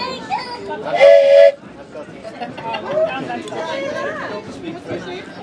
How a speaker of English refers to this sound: Because I have some... Shall I share my new whistles with audio